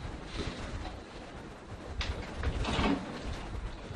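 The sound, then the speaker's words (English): A door slides and thuds shut partway through, with a soft rumbling scrape over steady room noise and no one speaking. “After the door closes.”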